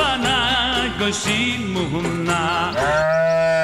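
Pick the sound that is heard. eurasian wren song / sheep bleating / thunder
sheep bleating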